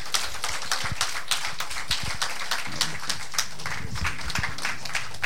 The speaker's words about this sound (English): With the joy of the Holy Spirit, I want you to rise with me with a clap offering to the Lord